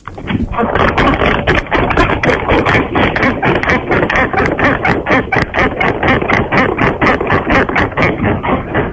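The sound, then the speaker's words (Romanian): A bed creaks loudly and almost nonstop as people climb onto it, one of them barefoot, in a contest to show how loudly a bed creaks; a dense, grinding rasp broken into quick rhythmic pulses for the whole stretch, with a low rumbling undertone. “Dar ce ai făcut patului ăla să scârție în halul ăsta?”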